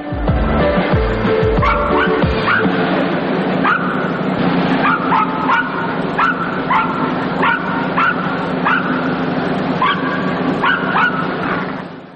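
Several circus dogs bark and yip excitedly in the circus ring in quick, overlapping bursts that continue steadily throughout, with a constant busy background rumble.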